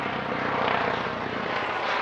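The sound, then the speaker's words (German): A helicopter drones overhead in Davos, in the Swiss mountains, bringing attendees to the gathering there, a steady loud rotor and engine roar with a faint rhythmic chop, filling the short stretch without any voices. “Es ist der Sound von Davos. Helikopter, die die Reichen und Mächtigen in die Schweizer Berge bringen.”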